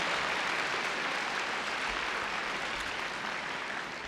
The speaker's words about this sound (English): Another round of applause and takbir for our audience over here, alhamdulillah.